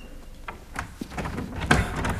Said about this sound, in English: There. The cellar door.